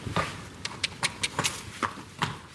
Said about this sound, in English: He was among the 12 horses that Jamie Buckley keeps in her livery yard outside Rattoath, County Meath.